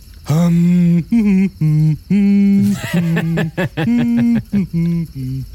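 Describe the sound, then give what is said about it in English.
A person demonstrates how a movie character hums with eyes closed, humming a slow, steady melody of sustained low-pitched tones, held notes broken by brief pauses, then a quicker run of shorter notes toward the end, calm and meditative. “He closes his eyes and hums.”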